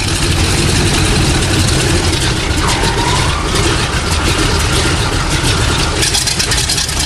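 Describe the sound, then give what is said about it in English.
Three powerful Pratt & Whitney radial aircraft engines are started one by one before takeoff from Camarillo Airport, roaring and rumbling in a steady, dense, throbbing drone that stays loud and constant throughout, with no one speaking. “One by one, the three powerful Pratt & Whitney radial engines are started.”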